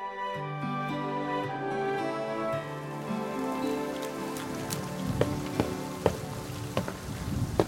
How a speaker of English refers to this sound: In this rain? Rain don't bother me much.